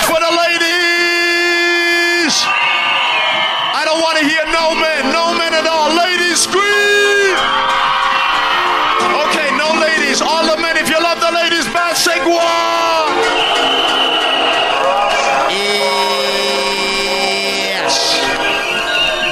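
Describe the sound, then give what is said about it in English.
A loud crowd of women screams and cheers continuously, with many high-pitched shrieks and whoops overlapping in a dense, sustained, intense roar. “Ladies, scream for the capital, scream.”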